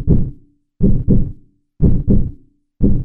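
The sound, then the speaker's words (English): A steady human heartbeat, loud: deep, muffled lub-dub thumps in pairs, about one beat per second, with short silences between beats. “The human animal averages 60 to 100 heartbeats a minute.”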